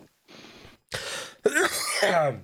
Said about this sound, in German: Oh, Entschuldigung, der Husten, der kickt. So. Oh, hat wieder gekickt.